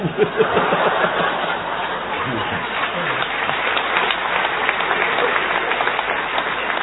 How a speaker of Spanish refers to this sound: ahora que llueve